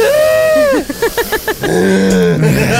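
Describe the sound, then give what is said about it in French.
A loud, exaggerated deep breath with a voiced, groaning quality: a long drawn sound, a quick series of rhythmic grunting pulses, then another sustained, low, straining exhale. “On prend une respiration.”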